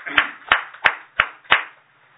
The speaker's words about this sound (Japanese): 盛大な拍手でお願いします。